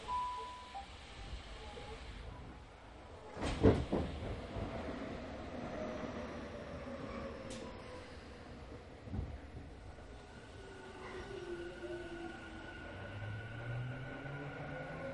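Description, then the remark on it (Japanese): A Japanese local commuter train, running through to the Tokyo Metro Fukutoshin Line, Tokyu Line and Minatomirai Line with Takasaka as the next stop, rumbles steadily along the tracks, heard from inside the carriage, with low mechanical drone, a couple of sharp clunks early on and rising and falling motor whine. “この電車は東京メトロ副都心線、東急線、みなとみらい線着通、各駅停車、この場所中央行きです。”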